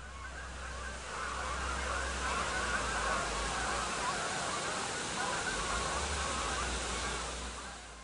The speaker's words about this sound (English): As I'm walking up towards the head of Roundhill Reservoir, I think I've just scared off a flock of geese and probably sped up their migration south for the winter.